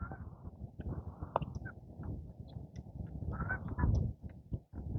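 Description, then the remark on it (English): Several geese, glimpsed through trees, honk in a loose, overlapping series, their harsh nasal calls rising over a steady rumble of outdoor background noise. “Oh, is that a goose? It was a goose.”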